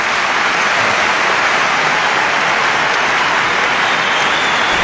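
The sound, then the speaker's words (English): A large crowd applauds after Ronald Reagan's 1981 commencement address at Notre Dame, in a dense, steady roar of clapping that holds at an even, loud level throughout, with no individual claps standing out and no voices. “I cut the applause off because that goes for like another 45 seconds.”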